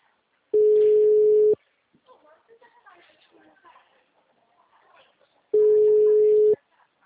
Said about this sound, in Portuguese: O telefone encontra-se ocupado.